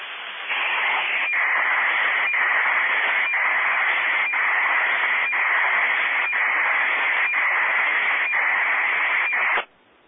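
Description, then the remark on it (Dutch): Steady, band-limited static of an AM signal from a receiver, broken by faint regular clicks about once per second as a weather balloon radiosonde transmits a data burst, cutting off abruptly near the end. No voices. “Je hoort dus de ruis van het AM-signaal, want het uiteraard een ontvangtje heeft geen kwels op AM. En dan hoor je een burst.”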